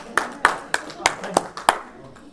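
Applause from a small audience, heard as about six crisp handclaps in a steady, evenly spaced rhythm over roughly two seconds, moderately loud and fairly close, then fading out.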